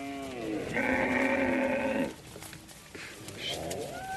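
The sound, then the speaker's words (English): A cattle herd calls out in Paoa, Central African Republic: one long, loud bleating cry dominates, with shorter bleats before and after and fainter animal calls in the open-air background. “But the tens of thousands of livestock crossing farmlands leads to conflict between herders and farmers.”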